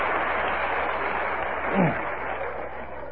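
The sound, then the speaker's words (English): An audience at a talk about alcoholism applauds in a dense, steady wash of clapping that holds evenly for about three seconds, with a brief vocal cry or cheer rising out of it midway. “For the non-alcoholics in the audience, that applause meant that the person sitting next to you knew exactly what I was talking about.”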